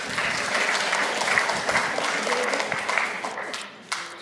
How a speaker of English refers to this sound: Well done. Let's give her a clap.